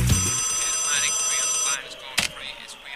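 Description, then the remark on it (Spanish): A telephone rings with a bright, steady electronic trill for nearly two seconds, then cuts off, leaving faint room noise and a brief clatter. “A la hora que viene llamando.”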